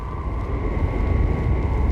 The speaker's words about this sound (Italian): Ecco che l'aereo cerca un varco tra le spire del ciclone, come lo cercherebbe tra le spire di un immenso pitone. Un pitone di circa 8.000 metri, nero, infernale, lampeggiante.